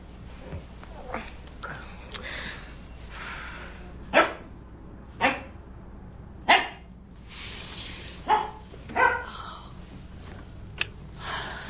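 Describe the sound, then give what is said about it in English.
A dog barks several times in short, sharp bursts spaced irregularly apart, fairly loud, over a low, steady background hum with no talking, at 4 a.m. “the dog.”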